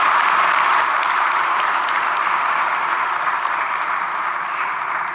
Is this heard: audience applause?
yes